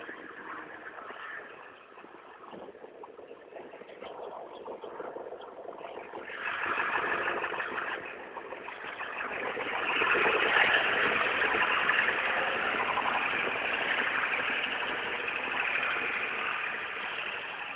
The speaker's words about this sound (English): Yeah, I think it's a diesel. A diesel pickup.